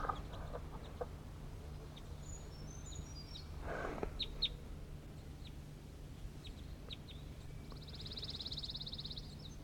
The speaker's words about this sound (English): I'm really close to the birds. They're going down to the ground for stuff.